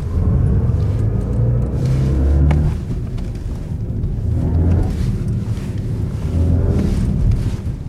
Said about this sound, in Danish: Og det havde nok været lidt for meget at sende et halvt minuts kunstig motorlyd ud i æteren, så derfor fadede jeg ud. En BMW i5 M60 kan også indstilles til ikke at skabe den kunstige motorlyd, hvis man vil være fri for den.